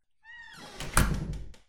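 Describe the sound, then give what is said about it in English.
An office door swings shut with a short, high creak from the hinges, then a solid thud as it meets the frame, followed by a couple of soft latch clicks. “Why don't you go ahead and close the door?”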